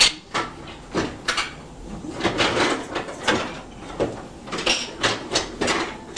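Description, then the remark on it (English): A small wooden side table drawer is pulled open and pushed shut repeatedly, with sliding scrapes and knocks in an irregular rhythm, fairly quiet, no voices. “Painter's drawer. Side table drawer.”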